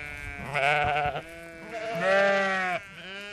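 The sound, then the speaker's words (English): Sheep bleat twice in quick succession, a wavering baa followed by a longer, louder one, on hill commonage in the Barnsmore Gap, Ireland, with open outdoor air behind and no talking. “3 hours to round up as many sheep as you can find in 5,000 acres of commonage.”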